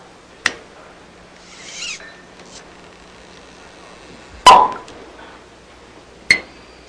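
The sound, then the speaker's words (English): A waiter opens a bottle of red wine with a corkscrew: a sharp click, a brief squeaky twisting rasp, then a loud hollow pop as the cork comes free, followed by one more crisp tap. No one speaks. “The waiter twists a corkscrew.”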